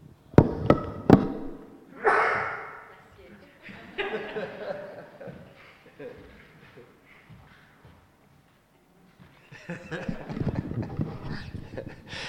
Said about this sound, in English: Yeah, I thought it was best not to sneeze into the microphone. It might be a bit of a shock.